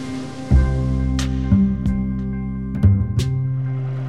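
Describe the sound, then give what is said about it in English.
A small boat engine drones steadily on the river, approaching Sacramento about 100 yards from the entrance to the Delta Cross Channel, a low, even hum running throughout, with a few brief knocks and splashy bursts over it and no voices. “We're going to turn our engines off, and we'll see which way the river takes us.”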